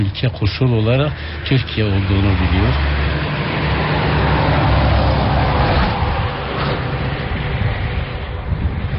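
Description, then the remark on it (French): A voice speaks briefly at the start, then a loud, steady roar of heavy trucks passing incessantly on the E90 highway, the only road to the Habur border post, fills the rest, with engine rumble and tire noise swelling continuously. “Sur le bord de l'E90, l'unique route qui mène au poste frontière de Habour, les passages de camions sont incessants.”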